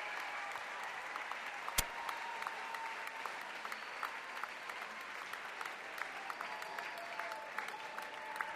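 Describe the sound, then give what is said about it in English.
A concert crowd at the 9:30 Club in Washington, D.C. keeps up steady, dense applause calling for more after the band has left the stage and the house lights have come up. Scattered whistles and cheers and one sharp clap-like crack early on, with no talking over it. “The crowd still wants more, but the house lights have come up.”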